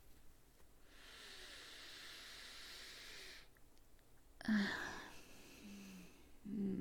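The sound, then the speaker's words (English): A long, deep sniffing inhale of a pair of worn panties lasting a few seconds, breathy and hissy, followed by a pause and then louder, rougher breathing sounds. “Take a whiff with me. A nice, deep sniff of my musky, sweaty, stinky panties.”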